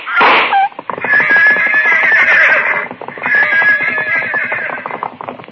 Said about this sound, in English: The pack horses reared at the shot. I lunged to stop them, stumbled into Consuela, grabbed her, and held on to keep her from falling. The half-mad animals carried Pascualis out onto the bridge and drove him along in further pounding hooves.